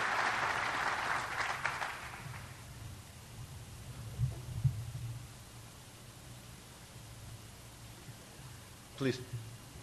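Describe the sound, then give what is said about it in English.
At an awards ceremony, a burst of audience applause for the Distinguished Service Award to the Certification Program fills the first couple of seconds and then dies away, leaving a low steady hum with a few soft thumps and one brief sharp noise near the end. “You might not have heard that with the applause.”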